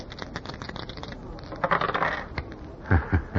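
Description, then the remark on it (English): Old dice, kept for luck, rattle and clatter, then tumble and bounce across a hard surface in a few quick knocks, fairly loud, as they are rolled in a game of craps, coming up deuce ace. “Hey, you have still got those old dice.”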